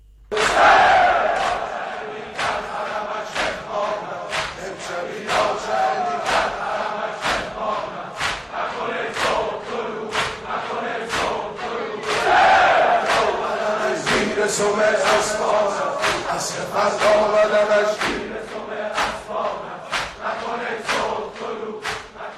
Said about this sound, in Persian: در شب عاشورای حسینی، دوستداران اهل بیت پیامبر گرامی اسلام در ایران، افغانستان، عراق و بسیاری دیگر از کشورهای جهان در سوگ سید و سالار شهیدان کربلا رخت عزا بر تن کردند و فریاد یا حسین سر دادند.